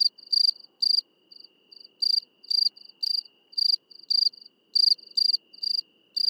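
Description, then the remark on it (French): A Provence field cricket (Gryllus immaculatus) chirps near the village of Vidauban at 22:30 on 4 October 2017, at 14 °C, in short, bright pulsed bursts, repeating in a steady rhythm with softer trills between the louder chirps, and no voices or other sounds. “Rencontre avec le grillon de Provence, Grillus immaculatus.”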